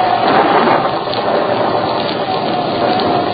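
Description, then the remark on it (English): A loud, continuous roar of churning water as a mighty gale whips the Pacific Ocean into mountainous waves, like a stormy sea heaving and crashing, dense and steady throughout with no clear breaks between waves. “a mighty gale churns through the atmosphere, whipping the level waters into mountainous waves and yawning chasms, streaking the sky with forked fingers of lightning, blasting the clouds with the echoes of thunder.”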